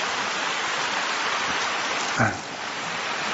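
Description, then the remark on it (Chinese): Steady, dense applause from a large audience of Buddhist followers in Taiwan, thanking radio station director Lu Junhong for his dharma talk; a continuous crackle of many hands clapping at even loudness, with one brief low thump partway through and no voices. “让我们再次以热烈的掌声，感恩卢军宏台长为我们带来的精彩开示。”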